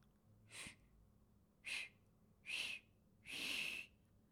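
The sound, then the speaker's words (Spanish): Four breathy, airy whistle attempts by Peter, whose teeth are chattering from the cold, each a short puff of hissing air with only a faint thin tone, the last one longer; fairly quiet with pauses between. “Peter trató de silbar.”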